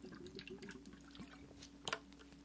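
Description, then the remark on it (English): Water pours into a glass, a steady trickle with small splashy clinks and a brighter splash near the end, quiet overall with no voices. “hold on, let me get some water.”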